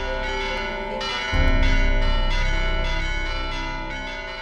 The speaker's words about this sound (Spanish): Pues para seguir escuchando esas campanas de la iglesia de San Andrés,